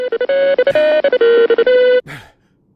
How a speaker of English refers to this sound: Oh my god, it's my phone.